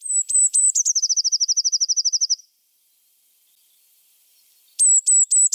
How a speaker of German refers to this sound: Sehr fein und hochfrequent. Kleiner Federball. Richtig. Die Blaumeise. Das war die Blaumeise.